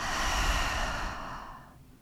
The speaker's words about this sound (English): breathing out, breathing in, breathing out, breathing in, breathing out, last time, breathing in, breathing out.